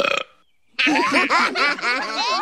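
A brief throaty burst, a short pause, then a long, loud belch that rumbles and warbles for nearly two seconds, with no talking; the belch that won a belching contest at work.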